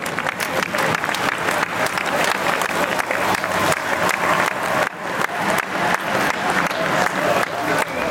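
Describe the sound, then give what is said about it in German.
A crowd of over 200 spectators claps and cheers steadily for the whole stretch, dense continuous applause with shouts mixed in, loud, with no break in the noise, as the main field of 161 riders in a cycling race passes the mountain classification point at Vilsbach. “Knapp 5 Minuten später haben die mittlerweile über 200 Zuschauerinnen und Zuschauer aber mehr Ausdauer gebraucht, um die restlichen 161 Fahrer vom Feld anzuführen.”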